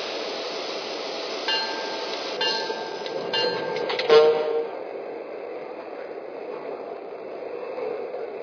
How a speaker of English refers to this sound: Attention passengers, now arriving from Washington and New York on track 4, train number 176, the Senator.